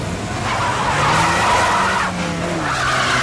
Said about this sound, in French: Mais brusquement, la voiture des gangsters fait marche arrière. Puis, elle repart à toute allure.